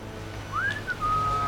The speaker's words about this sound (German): als ihr Freund Alf fröhlich pfeifend auf sie zukam